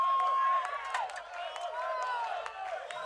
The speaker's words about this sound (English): Tomorrowland, make some fucking noise! I know you can do much better than this